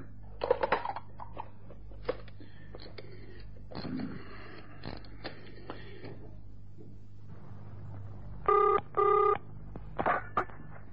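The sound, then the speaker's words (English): Handling clatter and clicks, as if a receiver is picked up and dialed on a telephone connected to a direct outside line, followed by a double burst of electronic phone ringing, then a final click. No one speaks. “Yes, please do use the phone. That one's on a direct outside line there.”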